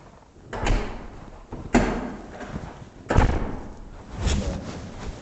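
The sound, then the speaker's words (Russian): A heavy, insulated apartment door is shut several times, each closing landing as a deep, solid thud with a short rattle. No one speaks. “Вы можете, кстати, есть просто заколкнуть его, почувствовать, она такая добротная, она тяжелая, она прям слушана за изоляцией, я хочу, такая мощная дверь.”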